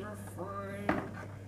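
A single short thump of a door being shut knocks once over a steady electrical hum and faint indoor background noise.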